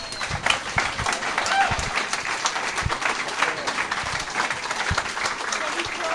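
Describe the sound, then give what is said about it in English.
A large crowd at a yearly weekend gathering claps steadily for several seconds, applauding themselves, a dense, sustained wash of applause with a few louder claps standing out. “I want you to give yourselves one big round of applause, please.”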